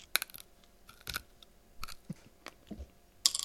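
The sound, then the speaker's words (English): Chewing with wet, crunchy mouth clicks and smacks at an irregular rhythm, a few sharper crackles standing out, fairly quiet and with no talking. “So what's next on the agenda here? Chewing. I can do that.”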